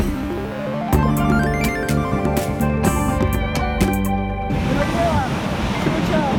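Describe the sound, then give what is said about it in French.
A short musical jingle plays, then gives way to a steady, rushing roar of ocean surf from an unusual swell, with waves up to 4 metres hitting the coasts of Peru, Ecuador and Chile in South America, fairly loud, with a few faint high calls over it. “Nous sommes d'abord en Amérique du Sud, touchés par des vagues.”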